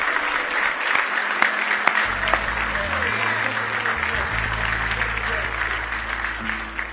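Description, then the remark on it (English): A church audience gives the Lord Jesus a big hand clap of praise, a dense, sustained burst of applause, with low organ or bass tones sounding underneath and faint crowd voices mixed in. “Give the Lord Jesus a big hand clap of praise.”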